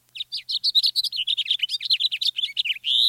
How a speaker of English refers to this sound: House finches sing sweetly, but often have a sharp, buzzy note near the end. Listen.